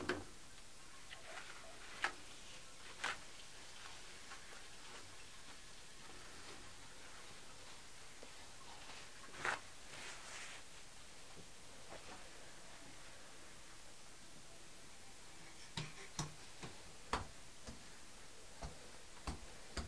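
A fire crackles in a fireplace, with irregular sharp pops and snaps scattered over a steady soft hiss. Quiet, with no voices.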